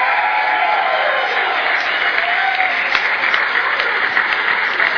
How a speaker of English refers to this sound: Photo opportunity. One final round of applause. Help me out. We'll send those guys down. Let's hear it. Come on.